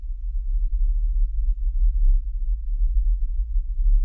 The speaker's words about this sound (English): You can hear it's a very, very low-level hum. And that should give you an idea. Once again, the Windsor hum, this is what people report hearing in various vicinities.